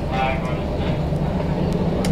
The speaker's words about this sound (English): No, just a B train.